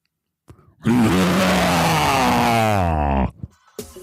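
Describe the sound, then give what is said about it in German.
A person imitates a white tiger, letting out one long, loud, rasping roar that swells and wavers in pitch for a few seconds before cutting off, with a short breathy sound before it. “Und jetzt zum Abschluss noch ein Raubzebra, also ein weißer Tiger.”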